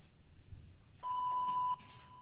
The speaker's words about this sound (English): Please leave a message after the tone and I will return your call as soon as possible.